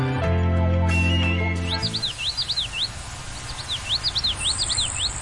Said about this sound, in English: A small and shy Florida grasshopper sparrow, born and raised in captivity, is flying with tiny transmitters so scientists can track and quickly learn what is pushing the bird towards extinction.